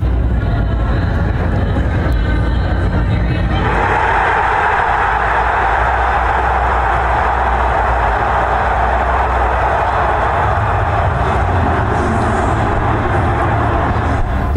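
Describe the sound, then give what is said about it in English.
A huge crowd of over 275,000 in downtown Detroit roars and cheers as Arnold is announced as a Lions draft pick, a dense, continuous wall of noise that swells louder after a few seconds and stays loud throughout, with no single voice standing out. “When Arnold was announced and the crowd, over 275,000 in downtown Detroit.”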